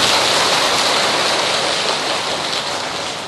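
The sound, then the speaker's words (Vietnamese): A steady wash of applause from a large assembly for a monk teacher, dense and continuous with no distinct individual claps, holding strong before tapering slightly toward the end. No one speaks over it. “Để chúc mừng cho tinh thần cao đẹp này, xin đại chúng hãy dành cho thầy Trung đạo một tràng pháo tay thật nhiệt tình.”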